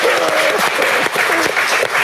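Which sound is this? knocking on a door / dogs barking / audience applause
audience applause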